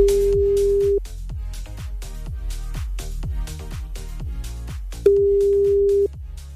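A telephone ringback tone of a call being placed to a listener in Baden-Württemberg sounds twice, each a steady one-second beep about four seconds apart, over a loud, punchy rhythmic music bed.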